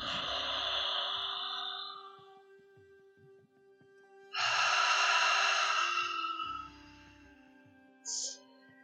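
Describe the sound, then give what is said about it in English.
Long, deep ocean breaths drawn through an open mouth, loud: two slow, airy whooshes separated by a pause, then a short third breath near the end, with no talking. “For those who are finding it difficult to breathe, you can keep your mouth open and take long, deep breaths through the mouth, doing ocean breathing.”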